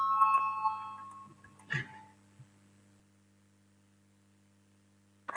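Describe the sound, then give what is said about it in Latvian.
A parliamentary voting bell rings to call a vote on a finance minister's proposal, with a bright, sustained tone that fades within a second or so, followed by a couple of short knocks over a steady low hum in otherwise quiet surroundings. “Lūdzu zvanu, balsosim par pirmo finanšu ministra Reira priekšlikumu, lūdzu balsosim.”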